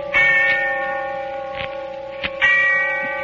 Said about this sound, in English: And the sound of the bell tolling away in the darkness of early evening.